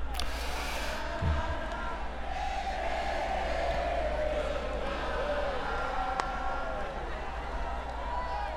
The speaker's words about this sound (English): And the crowd is singing goodbye.